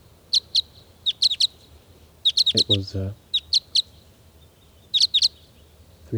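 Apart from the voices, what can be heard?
birds calling excitedly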